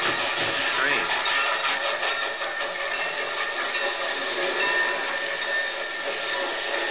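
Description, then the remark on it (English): A train rolls by with a steady, loud mechanical roar and droning hum that holds for the full seven seconds, muffled voices faintly underneath. “Hey, can I park my train here?”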